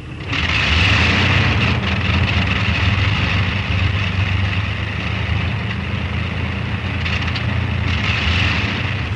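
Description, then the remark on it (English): The four heavy engines of a Shackleton aircraft burst into life one by one on a snow-covered tarmac, then roar into a steady, loud drone with a deep throbbing low end, holding constant for several seconds with no voices. “One by one, the four engines burst into life.”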